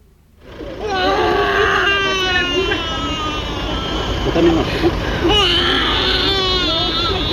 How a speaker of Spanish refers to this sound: Este llanto que ustedes están escuchando ahí, ustedes dirán, es un llanto de una beba de 9 meses, pero este llanto es el que le trae tranquilidad a una familia que no sabía qué hacer y que se encontraba con esta beba que estaba sin respirar.